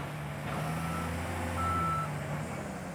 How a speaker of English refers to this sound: The formerly tranquil forest sounds, feels, and smells like a mining camp. Diesel fumes waft through the air. Bulldozers, dump trucks, and backhoes lumber up and down a new road that snakes into the jungle to the 6 experimental plots.